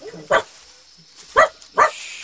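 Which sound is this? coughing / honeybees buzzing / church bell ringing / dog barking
dog barking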